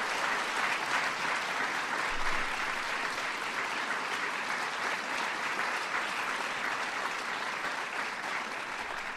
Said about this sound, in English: And I also want to acknowledge one of our honorees who unfortunately could not make it. Ever the artist, Andre Watts, had a concert to give in Salt Lake City. So give him a big round of applause in his absence.